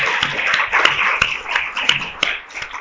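A round of applause from a crowd: a dense, steady wash of many hands clapping for a few seconds, with sharper individual claps poking through and no voices.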